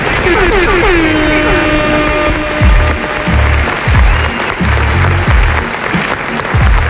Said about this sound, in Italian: E quindi eccoci qua. Che bello applauso. Sì, sì. Scrosciante.